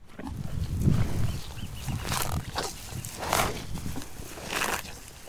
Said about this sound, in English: The cows. At any given time, there's several thousand of them roaming the pastures across Point Reyes. They're here to supply the 24 beef and dairy ranches that operate in the national park.